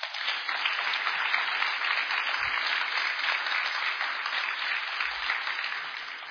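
Sustained audience applause for the speaker's father, a dense, steady wash of many hands clapping at an even loudness for several seconds with no voices on top, tapering only slightly at the end.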